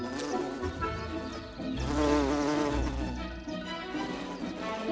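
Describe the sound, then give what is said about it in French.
A bumblebee buzzes in flight, its low droning hum rising and wavering as it moves about, with a steady background of outdoor ambience and no voices. “Ils sont capables de voler par un temps froid que ne supportent pas les abeilles à miel.”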